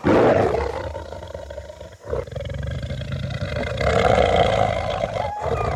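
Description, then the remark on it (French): A lion roars loudly in deep, rumbling bursts, with a brief pause midway before the roaring swells again. No one speaks. “Et le lion?”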